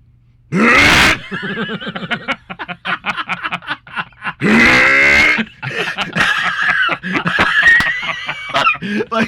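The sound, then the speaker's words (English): A voice imitates gagging and dry heaving at dog vomit in a kitchen: two loud, harsh retching bursts separated by choppy, croaking hiccup-like sounds, with no spoken words. “I was standing in front of the sink by myself, like 30 feet away from the vomit, just going...”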